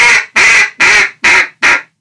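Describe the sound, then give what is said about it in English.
Five loud, raspy quacks blown on a duck call as a five-note greeting call, evenly spaced in a quick steady rhythm with no talking, each note harsh and nasal with brief silences between. “Once that sounds good, add two quacks to the end.”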